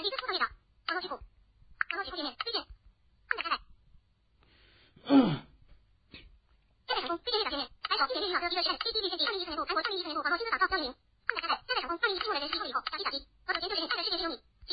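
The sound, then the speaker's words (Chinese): A song plays through a small smartphone speaker during a phone sound-quality test, sounding thin and band-limited. Singing runs in bursts with short gaps early on, then becomes steadier and fuller toward the end. “那这个手机的低音非常重。好，我们也来放一首这个歌曲。”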